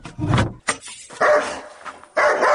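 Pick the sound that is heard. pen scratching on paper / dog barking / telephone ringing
dog barking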